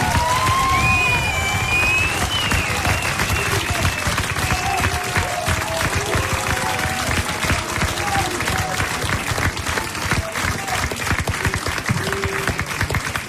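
An audience applauds loudly and steadily, a dense wash of many hands clapping that lasts throughout, with a few high whistles and cheers rising early on amid murmuring voices.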